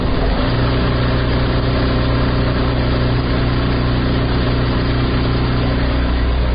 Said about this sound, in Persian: در این شب و روزی که کمتر از 5 روز بر عید سعید قربان مانده، خیاطان و گلدوزان نیز مصروف کار در عقب ماشین های گلدوزی نشسته و برخی دیگر در اتوکاری و بسته‌بندی کالاهای عیدی دیده می شوند.